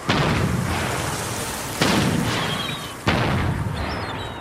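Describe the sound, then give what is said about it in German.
Three loud, sharp blasts from a boat-mounted acoustic cannon go off roughly every one to one and a half seconds, each followed by a long rumbling decay over steady background noise. A fishing crew fires it while the lines are set out, to drive the birds away. “Während die Leinen ausgebracht werden, feuert die Besatzung in 1-2 Minuten Abständen eine auf dem Boot montierte akustische Kanone ab, um die Vögel zu vertreiben.”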